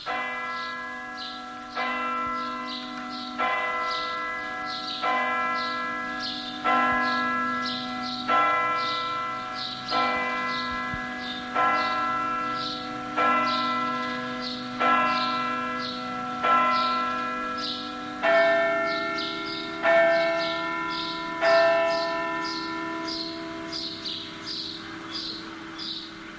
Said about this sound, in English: Okay, well, I think the 12 o'clock bell is about to chime in the church. In Venice you don't actually need a watch because there's so many bells everywhere, do you?